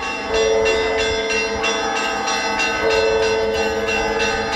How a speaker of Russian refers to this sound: Два крестных хода, объединившись в один, направились в Задонскую обитель, где насельники монастыря встретили его колокольным звоном.